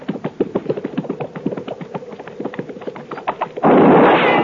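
A steady run of quick, evenly spaced taps gives way to a single loud gunshot whose harsh blast roars on until the end.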